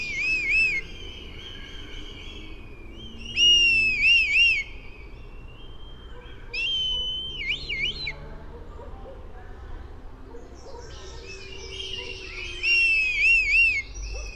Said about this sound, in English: And, you know, not the most intimidating or imposing of sounds. People often think that birds of prey would sound really gruff or fierce or tough. But no, the kite sounds very pleasant, I think.